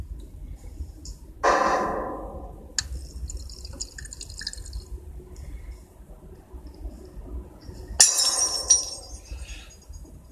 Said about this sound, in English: Who threw the glass?